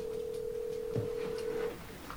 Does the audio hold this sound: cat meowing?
no